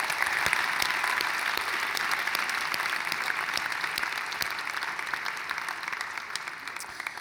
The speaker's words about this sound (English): You know, and as we clap, we're really blessing God as we do this,